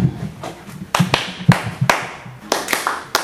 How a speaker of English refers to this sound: So we're going to play a song. Clap your hand after me.